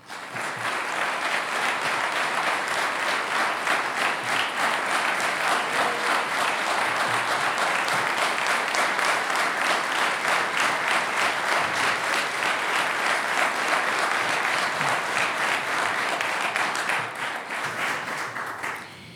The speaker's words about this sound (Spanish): Y si les parece, recibimos aquí en el Salón de Honor del CCK, y con un aplauso, por supuesto, a nuestro artista, ….